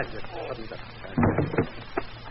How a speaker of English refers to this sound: You hear that door opening, don't you? You still think it's a gag?